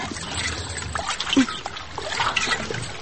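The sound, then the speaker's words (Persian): Water pours into a jug in a steady, splashy trickle that runs for about three seconds at a moderate level, with small gurgles rising and falling. “خو خیره تو بیا گوزه ما پر میکنم.”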